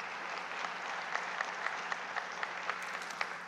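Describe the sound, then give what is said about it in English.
A crowd of people claps steadily to celebrate 15 people who went public with what happened in their hearts, a dense continuous patter of hands, moderately loud and unbroken for a few seconds, with no voices rising above it. “You could clap for that.”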